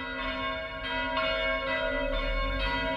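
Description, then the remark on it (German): The Peter-und-Paul church bell, with a strike tone of A4, rings steadily with repeated strikes, each new stroke landing over the lingering hum of the last, producing a rich, sustained metallic tone. No voices are heard. “Seit der Geläuteergänzung nimmt die Peter-und-Paul-Glocke die Stelle der alten von 1931 im Gesamtgeläut ein, da sie denselben Schlagton, das eingestrichene A, hat.”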